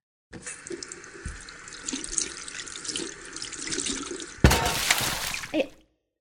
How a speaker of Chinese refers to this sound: 也别做什么菜了，帮妈妈淘个米吧。